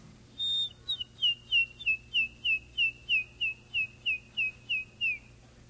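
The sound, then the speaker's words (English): A bobwhite quail, a popular game bird in Florida, gives a steady series of about a dozen clear, slightly down-slurred whistled notes, evenly spaced and fairly loud against a quiet background, with no one talking. “Popular game bird here in Florida is the bobwhite quail.”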